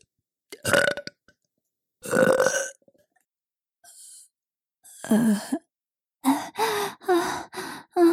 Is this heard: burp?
yes